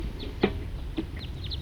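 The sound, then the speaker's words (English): A wild bird passes over the trailhead of the Cataract Trail at about 10:15, giving a series of short, high chirping calls, with two louder, harsher notes standing out against a steady low rumble of background noise. “I'm now at the trailhead of the Cataract Trail, and that was a wild bird flying over.”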